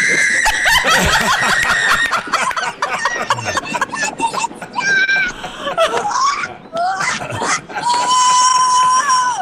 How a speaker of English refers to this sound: She's saying it's over, then she starts screaming.